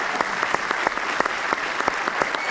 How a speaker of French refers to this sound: Un tonnerre d'applaudissements pour tous ces comédiens qui sont là pour vous, ce week-end, je vous remercie.